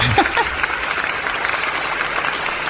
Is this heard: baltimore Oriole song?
no